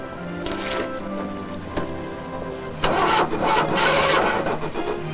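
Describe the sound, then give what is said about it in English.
A Mercedes car's starter motor cranks as the key is turned, a rhythmic, grinding whir with the engine turning over in repeated pulses that swell louder midway through and keep churning to the end. No voices. “Wilson passes the box off to a store employee, Robert gets in his Mercedes and turns the key.”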